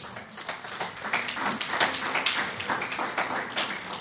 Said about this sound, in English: Somebody clap your hand for Jesus.